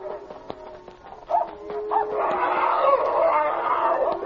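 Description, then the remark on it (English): A German shepherd and a big strange dog bark and snarl in a chaotic, overlapping fight among cattle, with the cattle lowing; the commotion starts patchy, then swells into a loud, continuous tangle of noise. “Look, there's a big strange dog in with the cattle. Get him, Checo, boy!”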